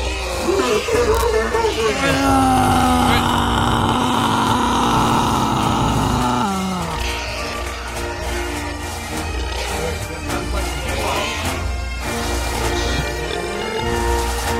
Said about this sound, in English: Let's bring up that mighty squeal again. It is the bear call.